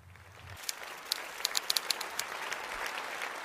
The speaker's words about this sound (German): Ja, da hat das Burgtheater noch Beifall rangehängt an die Lesung von Caroline Peters des Gedichts Corona von Pau Celan.